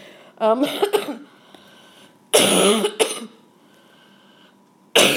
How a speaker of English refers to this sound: And God knows, if I have to hack and cough like this, maybe it's a good thing that I don't do it. But here's the good thing about this hacking and coughing. I can finally, glory to God, feel all that phlegm in my chest break up.